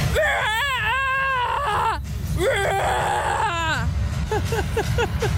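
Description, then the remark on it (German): A woman practices scare screaming, letting out a series of wavering, high-pitched vocal screams and squeals in bursts, fairly loud, over a steady low rumble of background noise. “Sollen wir dann schon mal so schreien üben oder so?”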